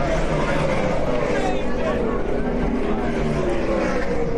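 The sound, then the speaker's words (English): A loud race car, the number 99 Office Depot car, roars steadily past on the track during a short-format race, its pitch sliding gradually lower as it passes, with a constant wash of engine noise and some talking underneath. “Here he comes. Number 99, the Office Depot car is really opening up a big lead.”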